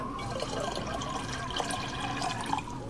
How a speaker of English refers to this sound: Dirin poured drinks, and on seeing Eric, hurried to get another cup.